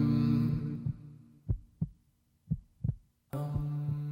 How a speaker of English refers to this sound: From within, oh Lord, I hear the silence. And I could hear my heartbeat and the blood flowing through my veins.